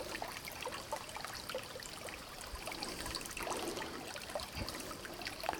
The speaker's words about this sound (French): Une rivière à la radio.